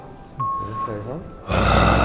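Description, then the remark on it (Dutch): A short electronic beep as a badge is activated and some vocal sounds lead into a loud, rough, growling roar that bursts in and holds steady to the end, harsh, as a person imitates the roar of a long-extinct bear, one of the largest ever, about 1.70 metres. “Die is al lang al uitgestorven, maar we gaan een keer zijn brul na doen.”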